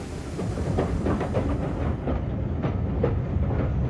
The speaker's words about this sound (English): That fellow in the grey flannels and the brogues coming up the platform. English tourist if ever I saw one. Looks like he's boarding the train.